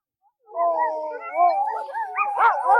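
Several sled dogs howl together in a sustained, wavering chorus, their overlapping cries rising and bending in pitch. The howling is fairly loud, with no talking.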